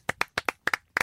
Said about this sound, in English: No, just clap, that's all I want.